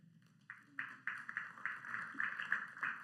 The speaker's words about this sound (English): That was really tepid. That was like a golf clap.